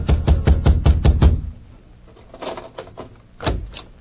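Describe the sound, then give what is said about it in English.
A rapid burst of about seven heavy, booming knocks pounds on Grabber Garson's door, waking him, then a pause with a few softer bumps and one more thud near the end. “A few minutes later, Grabber Garson was wakened by a pounding on his door.”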